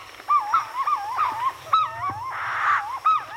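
Purple-throated fruit crows call from a nearby tree at sunrise, with loud, wavering, hooting notes. Several birds overlap in a steady back-and-forth chorus, with no one talking.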